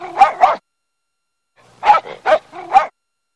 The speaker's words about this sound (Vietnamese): Nó rút ra một chiếc đồng hồ quả quýt to bằng bạc. Nhìn mặt đồng hồ, rồi sủa lên hai tiếng thật rành rọt.